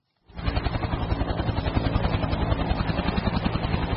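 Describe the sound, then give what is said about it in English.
A military helicopter roars over the flooded city of Joso, Japan, searching flooded streets and airlifting residents. Its rotor chops in a fast, steady rhythm over a heavy engine drone that starts abruptly and holds loud throughout, with no voices. “Military helicopters have been scouring the flooded streets and airlifting residents to a sports center being used as a temporary shelter.”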